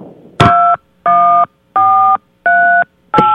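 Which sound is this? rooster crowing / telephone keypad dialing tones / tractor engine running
telephone keypad dialing tones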